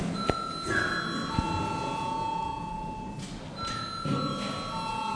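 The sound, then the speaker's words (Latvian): A voting bell in the Latvian parliament rings, called for before a vote, as a steady, shrill electronic tone with several layered pitches, briefly dropping out around the middle before resuming, over a low murmur of room noise. “Lūdzu zvanu.”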